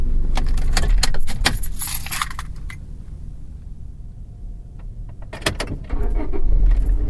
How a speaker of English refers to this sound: No! Alright, I started the engine before I put my headphones on. Sorry. Not headphones, I mean my microphones.